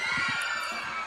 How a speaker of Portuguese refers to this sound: Eu quero ouvir só o gritinho das mulheres solteiras.